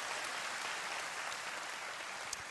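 A crowd claps steadily, a dense, continuous wash of applause that holds at an even level throughout, with no voices standing out above it.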